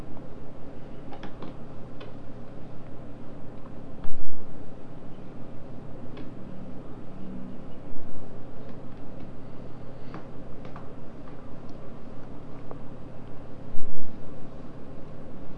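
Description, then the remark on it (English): A buckle and strap knock against a high chair leg in scattered, irregular light clicks and taps, a few louder thumps standing out over a steady background hiss. “You bang your little buckle and strap on the leg of the high chair.”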